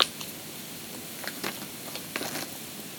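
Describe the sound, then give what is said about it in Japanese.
Chewing of gummy candy: soft, wet, squishy mouth clicks and smacks in an irregular rhythm, fairly quiet, with no talking. “咀嚼音苦手な方はやめた方がいいです。”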